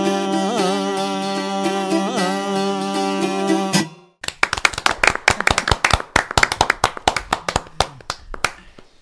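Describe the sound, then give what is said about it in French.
A sustained sung or played note with steady harmonics ends abruptly, followed by a burst of audience applause: many sharp, irregular claps, fairly loud and continuing to the end. “Et justement, nous venons d'applaudir.”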